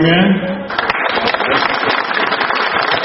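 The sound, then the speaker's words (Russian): A voice ends a phrase, then loud, dense applause from a crowd breaks out at the opening of a new supermarket in Białystok and continues steadily, many hands clapping at once in a sustained crackling roar. “Аплодисменты, затем начало охоты первых покупателей за дешевыми товарами.”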